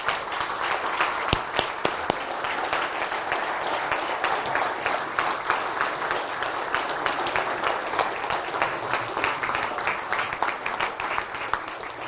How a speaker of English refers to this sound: what I want us to do is I want us as a church to stand to our feet. And I want us as a church just to applaud these people this morning.